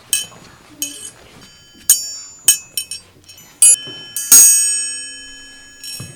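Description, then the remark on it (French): A metal triangle is struck about seven times at an uneven pace, each bright hit ringing on with a shimmering, high sustain that overlaps the next. “C'était le triangle.”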